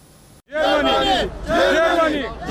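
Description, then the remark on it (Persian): Refugees stranded at the Belarus–Poland border, trying to reach Germany, shout loudly together in two sustained bursts of strained, high-pitched voices, with a brief dip between them and no clear words. “فریادهای پناهجویان گرفتار در مرزهای بلاروس و لهستان برای رسیدن به آلمان.”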